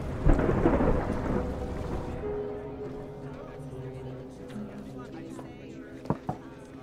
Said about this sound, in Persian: طوفان داره نزدیک میشه، دیگه خیلی وقت نداریم.